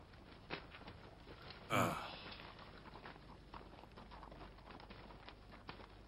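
Faint, irregular hoof clops from a horse being led away to be unsaddled and rested, with one louder breathy burst partway through and no talking.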